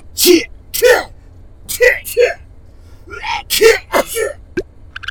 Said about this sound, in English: Ooh, I want one too. Help me sneeze.